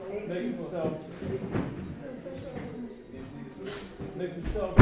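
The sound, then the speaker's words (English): People talk over light room noise, then a door shuts with a sudden, loud thud right at the end. “Can we close that door?”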